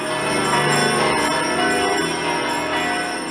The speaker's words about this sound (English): And at midnight, the church bells rang out to commemorate Jesus' birth.